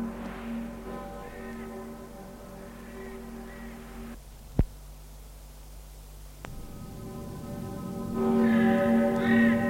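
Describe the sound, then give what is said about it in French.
Church bells ring in long, overlapping resonant tones that hum and decay, broken by a sharp knock midway, while a breathy rush like rising wind swells louder toward the end. “Puis, les cloches retentissent, le vent se lève.”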